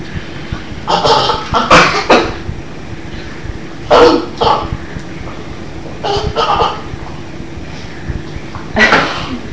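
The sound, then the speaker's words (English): A child coughs and sputters in a series of short, harsh bursts, some in quick pairs, fairly loud, with brief pauses between fits, choking on too much food and milk in the mouth. “I had to cough and I got too much milk.”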